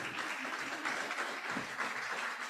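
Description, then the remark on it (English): An audience at a service claps steadily for a few seconds for the children who performed, a dense, even wash of many hands with no single claps standing out and no voices above it. “And now you may applaud for the children.”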